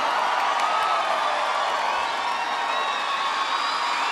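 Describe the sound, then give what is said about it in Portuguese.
A large audience at a live music show cheers and shouts continuously, a dense wall of voices with whoops and screams rising above it, loud and sustained throughout without a break. “Quem gostou, dá um gritinho, a salva de palmas.”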